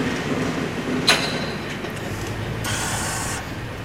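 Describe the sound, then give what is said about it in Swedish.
Steady low rumble of a vehicle driving past a tractor, with a sharp click early on and a broad hissing whoosh swelling briefly near the end. No one speaks. “Kör förbi en traktor här.”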